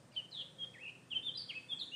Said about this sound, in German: Ich habe mir sagen, das ist ein Mönchsgrasmücke, ein einheimischer Vogel, der hier in einem Baum ist